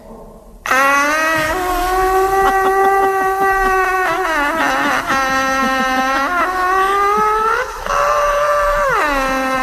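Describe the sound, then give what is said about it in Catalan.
A voice lets out an imitated long, loud, sustained scream that wavers and bends in pitch, briefly dipping and restarting a few times, with no other talking. “Però tota aquesta cosa que porto a dintre, me tanco en un lavabo, tanco els ulls, obro la boca i lo deixo anar con un crit tipo...”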